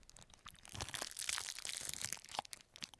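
Someone chews a crunchy, sweet peanut butter snack like a Reese's cup without the chocolate, a steady run of crisp, crackly crunches with a few sharper snaps over about three seconds, with no talking.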